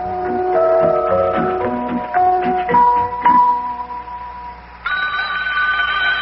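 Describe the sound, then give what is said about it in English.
A few seconds of bright, chiming tones, then a steady, high electronic telephone ring sounds out clearly in a home in Cincinnati, with no one talking. “just about the time we had given up hope of learning anything new, the telephone rang.”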